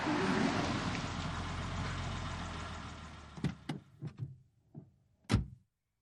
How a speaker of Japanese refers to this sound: 来た。 おー、すごか。あら、自動車ぞ。